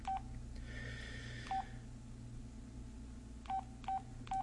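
Five short beeps of telephone keypad dialing tones, spaced unevenly as a number is punched in to call someone back, sounding clearly over a steady low background hum with no one talking.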